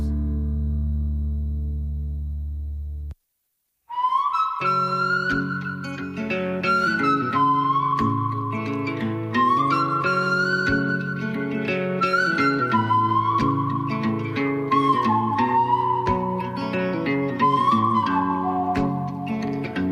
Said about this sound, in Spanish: Esos silbidos iniciales, no,